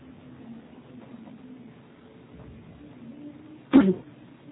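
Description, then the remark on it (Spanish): A woman on a phone call who has a cough lets out a single short, forceful, loud cough near the end, after several seconds of quiet low hum with no talking. “Desea que le hable otro día porque la oigo que está forzando su garganta. Tengo tos.”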